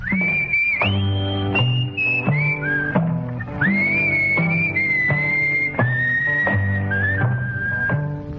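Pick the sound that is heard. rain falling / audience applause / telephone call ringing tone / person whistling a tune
person whistling a tune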